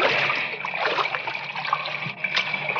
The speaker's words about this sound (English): As they wade through the water of the partly flooded shaft, a strange sound filters down through the mine.